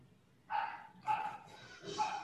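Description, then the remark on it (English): A female pet dog named Lulu barks three times in a steady rhythm, each bark sharp and bright with a strong harmonic tone, over a low background hum; she is about one room away. “Sorry, my dog's barking.”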